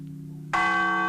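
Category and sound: signal or alarm, church bells ringing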